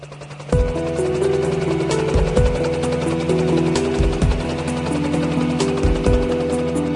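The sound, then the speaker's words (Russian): After a brief silence, the instrumental intro of an arranged song kicks in loudly: sustained chords over a bass line, punctuated by deep drum hits at an irregular beat, with no singing yet. “Песня называется «…». Песня аранжированная. Просто хочу, чтобы вы ее послушали.”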